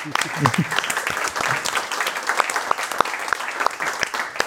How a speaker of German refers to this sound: Applaus für euch.